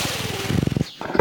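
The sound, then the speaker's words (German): An animal snorts and pants in quick, rhythmic, breathy pulses that grow louder, then pause briefly before a harsher snort. “ein Schnauben und Hecheln.”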